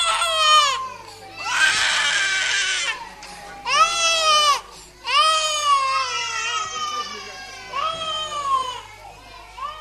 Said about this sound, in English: Children singing, children crying. Singing in Dublin, crying in that part of Nigeria once called Biafra. There are many reasons for tears over there. And yet the crying we've just heard is the happiest kind of crying